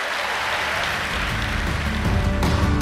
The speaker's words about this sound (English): Come on, clap your hands.